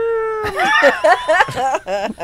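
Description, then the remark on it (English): A cat called Garage Cat meows in a rapid string of drawn-out, wavering cries, fairly loud, with a steady tone leading into the first cry and no talking. “I hear Garage Cat.”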